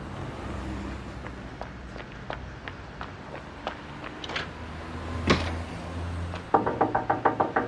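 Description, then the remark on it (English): Quick, evenly paced footsteps lead up to a sudden burst of about eight loud, rapid knocks pounding on a door, with no voices. “Emma rushes to Joe's. The door is locked.”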